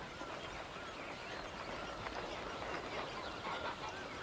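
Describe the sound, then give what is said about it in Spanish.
A dense, continuous chorus of waterfowl (ducks, coots, wading birds and geese) calling all at once in a marsh at Bharatpur in winter, a steady overlapping clamour from a large flock with no voices. “Patos, fúlicas, aves zancudas, gansos.”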